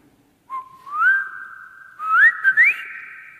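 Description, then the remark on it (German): A person whistles an imitation of a blackbird's song, one said to sound like Richard Wagner's Ride of the Valkyries: two short phrases of steady, clear mid-pitched tones broken by quick upward slides, fairly loud, with no talking. “Die war bei sich im Garten und da hörte sie eine Amsel.”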